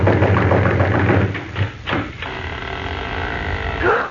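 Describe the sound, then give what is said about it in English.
A few heavy thuds of a fist pounding on a wooden door with a loose latch, loose and uneven, heard over a steady mechanical hum that fills the background. “The latch was loose and the door opened when we banged on it.”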